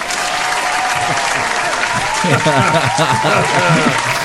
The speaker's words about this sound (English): What sound effects? I had 50 people I had to line up to clap for you today, man. And you know, in the old days, we actually had to have a live audience to do that.